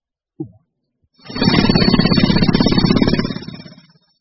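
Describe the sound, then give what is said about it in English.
A brief click, then a power drill whirs loudly and steadily for about three seconds with a rapid, rattling buzz before winding down, with no one speaking. “A drill.”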